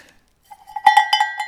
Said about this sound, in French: Alors là, vous voyez, en la resserrant, on change le son très facilement. Par contre, le battant est à moi. Hein. Donc ça, c'est une cloche de chez vous.